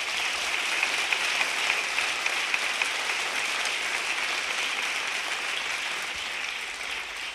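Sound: audience applause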